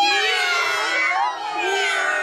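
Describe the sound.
A pressed button on a toy that plays animal sounds gives a dense chorus of cats meowing all at once, many overlapping cries blending into a continuous, fairly loud wail for a couple of seconds with no talking.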